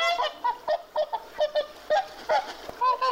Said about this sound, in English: St. Hugh of Lincoln employed an aggressively violent guard swan as his bodyguard? The swan would honk at anyone who came near Hugh of Lincoln using phrases such as,